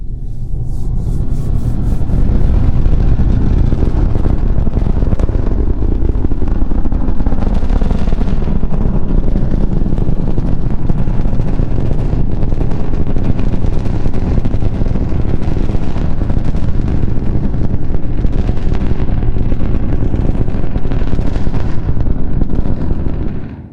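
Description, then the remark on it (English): A NASA SLS rocket launch roars for the whole span, a dense low rumble sliding downward in pitch with harsh, sputtering crackle layered on top, loud and unbroken, with no voices. “The low-frequency rumble that decreases in pitch and the intense crackle that gradually lessens as distance increases and the highest frequencies dissipate in the atmosphere.”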